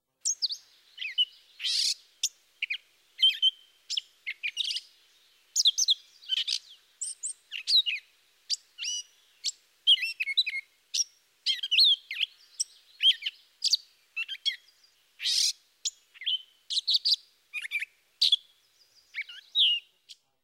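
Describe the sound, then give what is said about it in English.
A catbird sings a long, disjointed run of harsh, squeaky, nasal phrases, high-pitched and choppy with brief gaps between bursts, and a few sweeter notes mixed in. No one speaks. “The disjointed song is a mixture of harsh, squeaky, and nasal phrases, with occasional sweet notes.”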